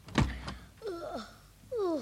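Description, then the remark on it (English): A window being closed as it starts to rain again, in a recording of the radio comedy The Clitheroe Kid: a sharp thump near the start, then two drawn-out, rising and falling squeaks as the frame slides, fairly quiet, with no talking. “I'll just close your window.”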